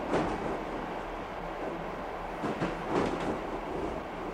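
A train rolls steadily along the rails with a continuous low rumble, broken by a few sharper clacks near the end as the wheels pass over track joints.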